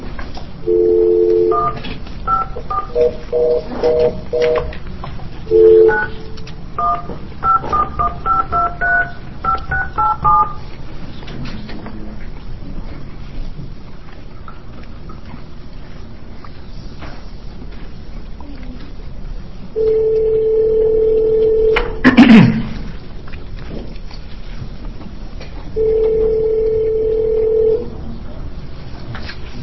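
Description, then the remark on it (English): A steady dial tone gives way to a quick run of touch-tone dialing beeps as witnesses are called to testify by phone at a House Judiciary Committee hearing, followed by a long quiet stretch, then the dial tone returns, cut briefly by a click, and sounds again. “But we will get these people on the phone quickly and then hopefully get to 3419.”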